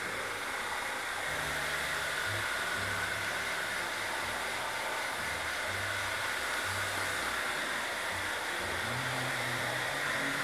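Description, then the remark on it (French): A hair dryer blows steadily, a constant loud whooshing roar with a faint hum underneath that never lets up, with no voices over it, as it is used to style a person's hair while drying it. “On a l'impression qu'il se sert de son sèche-cheveux comme de...”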